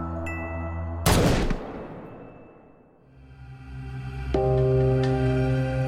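A single loud gunshot, the first shot fired, cracks out over a low, sustained musical drone, its echo fading slowly before the music swells back in with a couple of softer hits.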